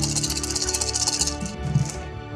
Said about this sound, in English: And I will roll some dice.